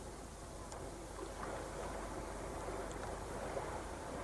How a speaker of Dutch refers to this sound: Dat is de zee die je hoort. Die kan niet zo ver weg zijn, hè?